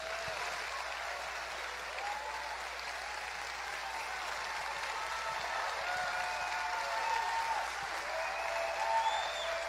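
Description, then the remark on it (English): Sustained audience applause for Dr. Zelenko, a dense steady wash of clapping that holds at a fairly even loudness for about ten seconds, with a few faint cheers and whoops rising above it. “Let's hear one more time for Dr. Zelenko.”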